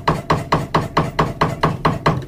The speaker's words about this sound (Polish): Ustawiamy czaszę do wiatru, zwalniamy hamulec, kręcą się skrzydła, wszystko tu wiruje. Tu widzimy dalszy ciąg króla, prawda? On się obraca. Tutaj wsypujemy ziarenko i słyszymy pracę wiatraka. Słychać taki odgłos.